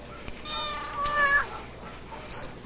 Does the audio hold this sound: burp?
no